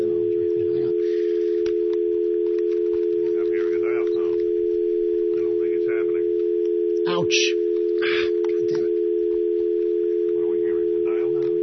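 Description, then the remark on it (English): A steady telephone dial tone hums continuously from start to finish, loud and unbroken, with people talking faintly over it and a few brief clicks and rustles. “We do appear to be hearing a dial tone.”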